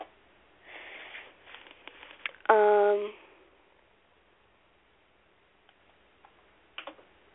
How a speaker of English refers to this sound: Sorry, I'm, like, really bad at typing today for some reason.